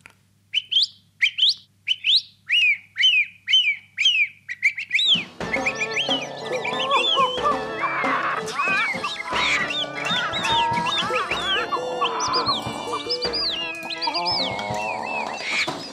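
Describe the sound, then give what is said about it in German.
A bird 100 metres away sings a quick series of about ten repeated whistled notes, then the song continues amid a dense, busy chorus of other birds and outdoor background sound. “Der derselbe Vogel jetzt 100 Meter weit weg.”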